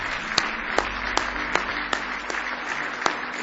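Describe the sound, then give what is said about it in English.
A church audience claps together in a steady, rhythmic beat as a hand clap of praise to the Lord, sharp regular accents rising above a dense wash of scattered hand claps, with no voices. “Give the Lord a big hand clap of praise if you love him tonight.”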